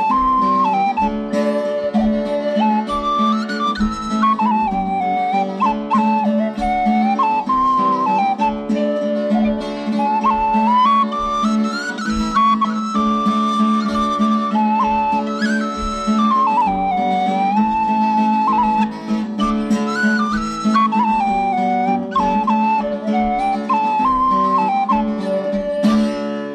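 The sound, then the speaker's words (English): A whistle plays a lilting folk melody over steady, full accompaniment with a regular low pulse, continuing unbroken for the whole stretch with no voices. “playing whistle.”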